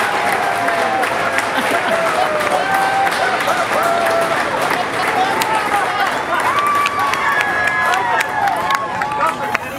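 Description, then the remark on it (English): Steady applause and cheering from a crowd of family and friends as passengers, including Jeff Bezos, exit a space capsule fill the whole clip, dense and loud, with scattered shouts and excited voices rising above the clapping. “And the applause is both here and there as they begin to, there they are, exiting the capsule.”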